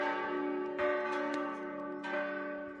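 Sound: church bells ringing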